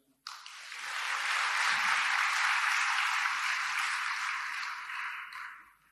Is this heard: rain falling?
no